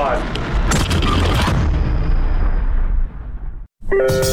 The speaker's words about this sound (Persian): آیا او برای ساخت اوپنهایمر دست به یک انفجار واقعی زده؟ چیزی شبیه به یک انفجار هسته‌ای؟